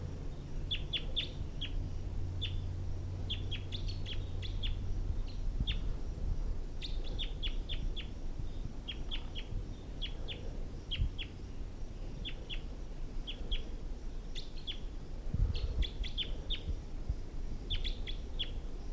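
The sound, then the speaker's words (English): A wild male bird calls repeatedly from high in the trees, sharp chirping notes in quick clusters throughout, over a steady low outdoor rumble. “So recording, that wild male is high up in the trees now.”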